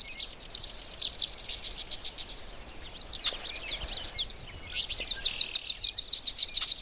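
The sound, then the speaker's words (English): A swamp sparrow's rapid, even trill of staccato notes on a single pitch rings out amid a busy chorus of other chirping birds, including the chuck calls of red-winged blackbirds, with no voices. “There, that was the swamp sparrow again.”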